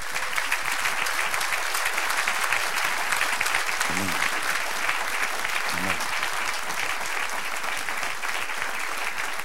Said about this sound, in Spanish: Sí, dale un aplauso al Señor.